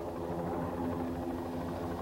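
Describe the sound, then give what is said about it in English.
A patrol helicopter drones steadily overhead above a desert, its engine and rotor noise forming a continuous, even rumble at a moderate, unchanging level with no voices. “Hearing a helicopter, Mike dives toward a sand dune, and the others follow.”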